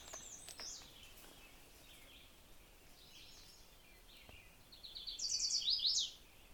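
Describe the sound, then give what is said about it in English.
A chestnut-sided warbler sings a bright, high phrase of quick repeated notes ending in an emphatic sweep, with fainter bird chirps earlier over quiet outdoor ambience, heard early in the morning, before 6, on trails near a house. “Actually, the first bird I hear before I've even gone very far is a chestnut-sided warbler.”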